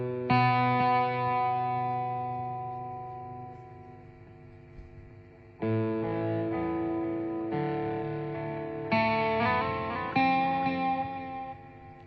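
An electric guitar played through Guitarix amp software with an echo effect plays a long ringing chord, then four more strummed chords in quick succession, each sustaining and trailing off. Loud, with no talking.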